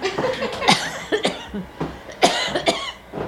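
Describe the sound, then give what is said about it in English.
An elderly woman, a grandmother, coughs several times in quick, harsh, fairly loud bursts, with brief pauses between the hacking fits and no talking. “Got grandma coughing still there.”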